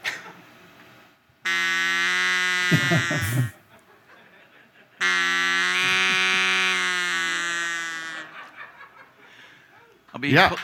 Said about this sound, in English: Wes, you want to pull up this duck call?